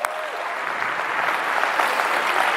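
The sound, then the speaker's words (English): A crowd claps steadily, a dense, even wash of many hands sustained at moderate loudness for a couple of seconds with no voices standing out, applauding the guests at a live Think Fast, Talk Smart event: a panel of four GSB faculty and lecturers and a coach from the athletics department. “Let's give a big round of applause to our guests.”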